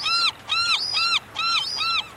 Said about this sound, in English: Listen to a glaucous-winged gull as it offers what is known as its long call.